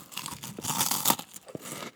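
Crisp crunching as someone bites into about four spicy Hot Fries snack chips, a burst of brittle crackles followed by a few softer chewing crunches, with no talking.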